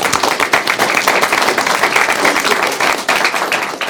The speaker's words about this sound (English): So we do want to congratulate all those who are involved and make container operations happen from all of the departments across the port. And thank you for your dedication and your efforts to keep us going. Let's give them all a round of applause.